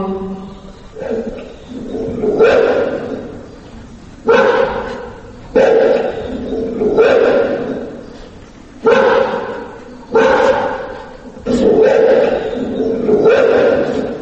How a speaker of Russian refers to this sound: Родина, как слышите, встречает Мышкина истошным собачьим лаем и криками «Ахтунг!».